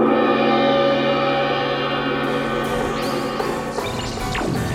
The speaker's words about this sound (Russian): Впереди вспыхнуло и забушевало огромное пламя.